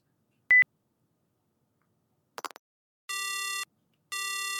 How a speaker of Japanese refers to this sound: 電話、鳴ってるよ。奥さんから。出た方がいいよ。